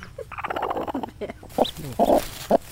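Chickens cluck in short, throaty bursts, with a few thin, high peeps from chicks hatching in the nests, over a faint outdoor background and no talking.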